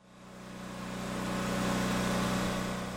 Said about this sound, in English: A loud generator is pumping water from Don Habiger's house at the end of View Drive.